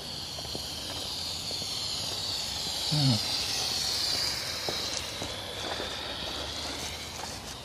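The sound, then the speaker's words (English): A sprinkler sprays water onto a street, making a steady, even hiss that never lets up, with a brief low rumbling sweep partway through. “Sprinkler spraying the street.”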